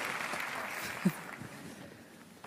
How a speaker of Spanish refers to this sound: Un aplauso una vez más.